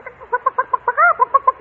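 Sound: voice imitating chicken clucking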